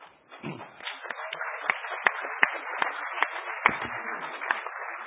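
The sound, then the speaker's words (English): A crowd applauds steadily for about five seconds for the person running a microcontroller workshop in the Hackerspace Village, a dense wash of overlapping hand claps with a few sharper individual claps popping out above the rest, sounding muffled and somewhat thin. “Also, give him a huge round of applause for the microcontroller workshop that he's been doing in the Hackerspace Village, bringing tons of huge.”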